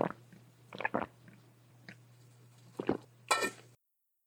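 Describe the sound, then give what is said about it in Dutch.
Someone takes a sip of water: a handful of short, wet mouth and swallowing sounds spaced irregularly, ending with a louder slurp, over a faint steady hum. “Ik neem even een slokje water.”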